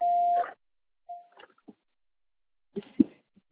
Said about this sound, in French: C'est à vous après le bip.